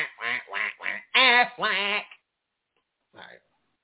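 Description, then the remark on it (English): A person imitates a duck with a quick run of five nasal, harmonic quacks, then a short pause and one softer final quack, fairly loud with nothing else around. “You know how it seems when you are the different person, the ugly duckling that may not be ugly, but you're a duckling and they are swans. They are geese. Quack, quack, quack, quack, quack, quack.”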